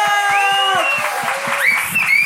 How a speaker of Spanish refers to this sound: Démosle una bienvenida con un fuerte aplauso a la Surprise, weón.